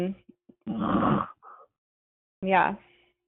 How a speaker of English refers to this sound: who is breathing? Did somebody fall asleep? My mic is muted, so it's not me.